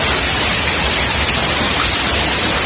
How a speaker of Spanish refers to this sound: El granizo dejaba las calles blancas, cubiertas de piedra en ese municipio sevillano y también en Carmona, en Alcalá del Río, en Villafranca.